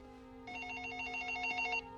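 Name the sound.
telephone ringing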